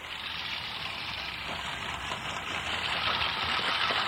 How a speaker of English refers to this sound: Well, I'm mowing my lawn, and you'll probably notice that I'm not using a power mower here. And I've got an old-fashioned lawnmower that's making a reappearance now in the environmental lawns around